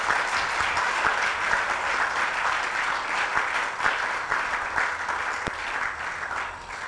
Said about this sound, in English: Can I hear you clap again to God's glory?